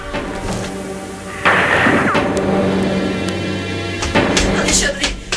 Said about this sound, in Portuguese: O que aconteceu aqui, pelo amor de Deus? Eu estava dormindo e acordei com duas explosões, dois tiros.